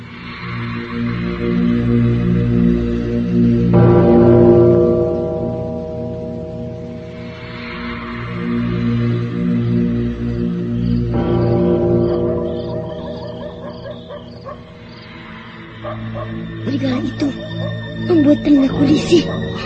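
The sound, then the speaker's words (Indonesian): Several wolves howl in long, drawn-out wails that rise and overlap, fairly loud, with a continuous layered backdrop and a few sharper cries near the end. “Kalau serigala itu berada di sini, aku pecahkan kepalanya dengan batu.”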